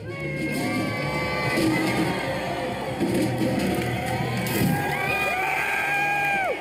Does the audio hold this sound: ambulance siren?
no